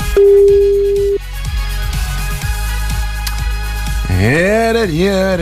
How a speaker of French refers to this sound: Attention, le téléphone sonne, c'est peut-être le vôtre et là, faut décrocher maintenant.